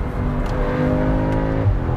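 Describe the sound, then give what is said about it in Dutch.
The engine of an S3 car, which is not a five-cylinder, revs up steadily after the driver downshifts, its droning tone climbing as it accelerates, loud with no talking. “Ik zal ze even terugschakelen en een beetje accelereren.”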